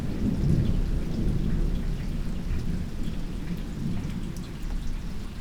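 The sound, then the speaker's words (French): A thunderstorm recorded at 3:30 pm in August 2017, with a deep, sustained rumble of thunder rolling beneath steady rain, with scattered drops pattering on nearby surfaces. No voices, just the continuous storm throughout. “15h30. Sous l'orage.”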